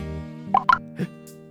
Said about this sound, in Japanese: はい、それじゃあシャンプーかけるから目を開けないでね。